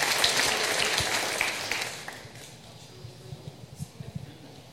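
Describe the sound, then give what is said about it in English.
A crowd of children cheers loudly for about two seconds for a grandmother's birthday, then the noise fades into scattered murmuring voices and a few low thumps. “Don't you love to hear those voices? That's my treat. Get to hear our children.”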